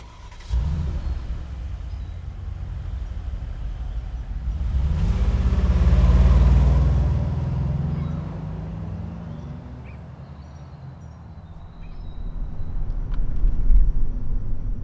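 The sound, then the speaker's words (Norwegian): A family's car engine rumbles low and steady as the vehicle pulls away from their house and keeps driving, swelling louder midway, easing, then rising again, with faint birdsong high above and no voices. “Før de setter seg inn i bilen, roper familien ha det til huset.”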